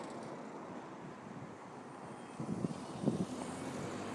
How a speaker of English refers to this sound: Sounding engine on that one.